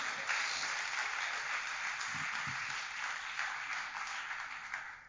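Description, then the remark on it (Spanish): A church audience breaks into sustained applause for the Lord during a sermon, a dense wash of many hands clapping at once, steady and fairly loud for the whole stretch with no speech over it. “Alguien, dale un aplauso al Señor.”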